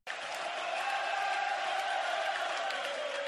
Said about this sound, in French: De tirer vers la première balle et la foule s'amuse au stade municipal. Toute une performance d'Éric Gagné.